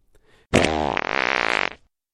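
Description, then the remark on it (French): A loud, drawn-out fart lasting over a second, starting with a blast and then fluttering in a rapid rippling buzz before cutting off. No one speaks. “Ils parlent de paix dans le monde puisque les proutes des animaux de chaque continent sont évoquées.”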